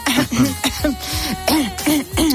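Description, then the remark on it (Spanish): A voice makes a quick series of throat-clearing sounds, fairly loud, as if imitating someone repeatedly clearing their throat, with short rasping bursts in an uneven rhythm. “Y gente que carraspea constantemente.”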